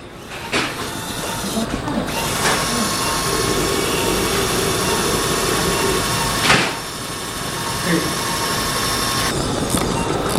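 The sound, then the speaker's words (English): A surgical drill grinds into a patient's bone during surgery, preparing the bone for a socket component that takes a plastic bearing, with a loud, steady whirring roar that runs for several seconds, swelling in short surges before stopping. No one speaks over it. “I have a drill. We're using her landmarks to make sure that the socket goes in where it belongs.”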